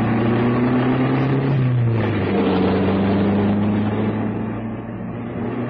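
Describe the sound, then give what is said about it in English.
A steady, loud truck engine drone with low harmonic hum that shifts pitch slightly as the truck drives along a rough farm road in the rain, skidding through old elephant footprints, with rumbling, bumpy road noise throughout and no voices. “Now on, we're on the farm road. Bad enough to pay like a car, it's going to be quite the drive.”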